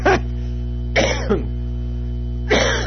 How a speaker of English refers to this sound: I have a European cough.